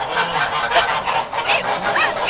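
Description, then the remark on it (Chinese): A mother goose, caught eating seedlings with her goslings, honks loudly and repeatedly while being grabbed and held, harsh nasal calls coming in a steady run of bursts with no pauses between them, and no talking. “坏大鹅，你叫，叫你叫，就不撒手，叫一些小鹅仔住嘴！”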